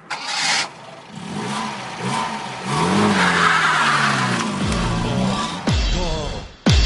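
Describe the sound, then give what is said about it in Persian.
An old car engine sputters and cranks, catches, then revs up loudly and roars away with rising pitch, ending in a sharp burst of acceleration, no voices. “عجب ماشینیه چقدر سرعتی میره.”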